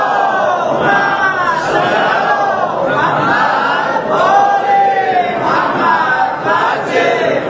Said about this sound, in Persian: یه صلواتی بفرستید بلند.